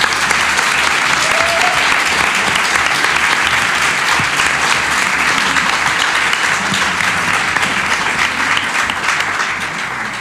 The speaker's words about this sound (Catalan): avui és l'últim dia que està amb nosaltres. Estem molt tristes. Per favor, un aplaudiment superfort.